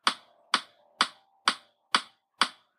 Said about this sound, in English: So you can hear this like clicking. That sounds kind of annoying. What's going on right here? We've got this like click track is what we call it. It's a metronome.